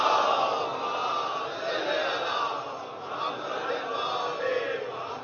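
A large crowd loudly recites salawat on the Prophet Muhammad and his family in unison, many voices blending into a sustained, rising and falling devotional recitation that fills the whole clip without pause.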